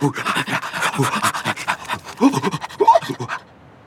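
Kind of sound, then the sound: animal, sled dogs panting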